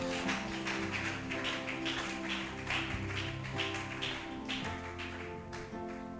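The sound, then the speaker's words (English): A crowd claps their hands together in a dense, steady patter of sharp slaps that runs for several seconds, with sustained musical tones humming underneath. “Clap your two hands.”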